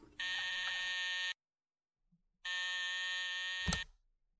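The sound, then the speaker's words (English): Two long, loud electric buzzes, each about a second, with a brief silence between them, the second ending in a sharp click: an inter-office intercom phone buzzer connecting a secretary's desk with her boss's office, sounded around 2:30 in the afternoon. “Around 2:30 that afternoon, Miss Anderson buzzed me on the inner office phone.”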